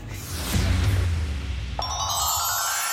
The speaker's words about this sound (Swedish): Det ringer hos Karlavagnen